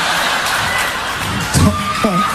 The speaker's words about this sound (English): I appreciate it. But I was trying to think of the next line. I'm like, all I hear is clapping.